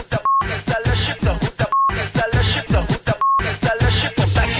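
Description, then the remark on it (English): Three short, steady censor bleeps cut into rapid, energetic speech at irregular intervals, each beep briefly replacing an expletive before the talking resumes. “There's a few expletives there, but I'm pretty confident that I beeped them all out.”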